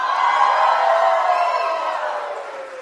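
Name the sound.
audience cheering and whooping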